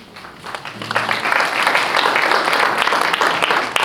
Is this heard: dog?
no